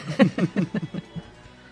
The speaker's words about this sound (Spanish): Todo un show de toses en las mías. Salen en HD.